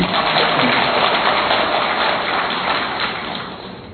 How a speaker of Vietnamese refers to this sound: Nếu được thì xin chúng bạn chị em vỗ một tràng pháo tay để thể hiện.